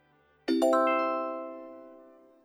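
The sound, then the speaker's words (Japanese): A bright two-tone chime rings out once, its overlapping notes struck in quick succession and then sustaining and fading slowly. It signals when to answer in a language practice drill for the Okinawan (Uchinaaguchi) language. Clear, with no talking. “のチャイムの後に、友達、弟、おじさんなど、標準語で回答の内容を指示しますので、のチャイムの後に、指示した標準語と対応するうくむにの単語を使って回答しましょう。”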